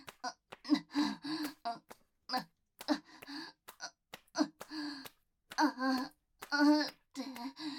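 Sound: heavy panting breaths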